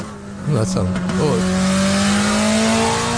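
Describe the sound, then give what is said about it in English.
A loud modified car's engine accelerates on the 14 North freeway, its droning pitch climbing steadily for several seconds after a brief burst of voices near the start. “There's a video of it on the freeway right there.”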